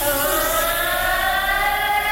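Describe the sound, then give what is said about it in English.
A voice mimics a huge, menacing cat meow: one loud, sustained, harmonically rich yowl that holds a steady pitch for about two seconds with a slight wavering drift, no other talking. “just a huge evil cat meow.”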